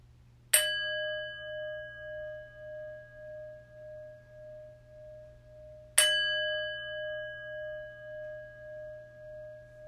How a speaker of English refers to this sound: The chimes will call us to prayerful meditation.